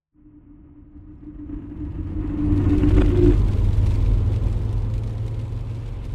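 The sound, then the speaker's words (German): A car drives with a steady low rumble and a droning engine hum through rural Hesse, Germany, past fields and half-timbered houses on a summer day in 2025, heading to the prison in Schwalmstadt, while a dense hiss of rain on the windscreen swells in after a couple of seconds and holds. No one speaks. “Regen prasselt gegen die Frontscheibe. Ich fahre vorbei an Feldern und Fachwerkhäusern durch die hessische Provinz.”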